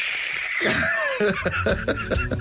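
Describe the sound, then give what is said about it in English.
A person imitates a cat's hiss: a long, breathy, raspy hiss that breaks into a run of short, choppy voiced bursts, like snickering gasps. “hissing like a cat in the bed at 4:05 this morning as the light came on.”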